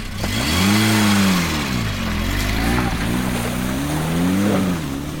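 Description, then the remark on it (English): An Austin Allegro car engine revs loudly, its droning pitch climbing and falling in repeated waves over a steady rumble, with no voices. “So with little leg room, poor gear changes and everything falling apart, this week's Austin Performance Car of the Week is the Austin Allegro.”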